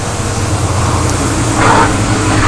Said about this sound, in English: And there's the bus.